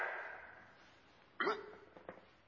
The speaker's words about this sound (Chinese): 你打嗝了。